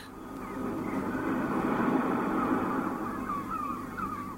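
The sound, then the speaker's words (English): A steady, rushing roar of sea waves swells gently and then eases, while faint, high seagull cries wail over it, mostly toward the end; the effect is played from a loudspeaker at the start of an exhibition at the Netherlands Broadcasting Museum. “Yes, the sound of the sea, complete with seagulls, and yet there's no sea for at least 100 kilometres from here.”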